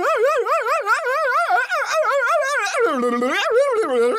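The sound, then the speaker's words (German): A voice imitates a dog with a rapid string of loud, yelping bark-like sounds, pitch bouncing up and down without pause, then sliding lower and rougher toward the end. “Das war jetzt aber eher Gebelle. Ich weiß, klang wie ein Hund.”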